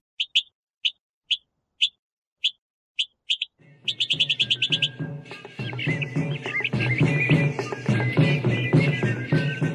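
A mockingbird sings sharp, evenly spaced chirps alone at first, then a rapid run of notes as a dense, louder wash of sound swells in and continues beneath the birdsong.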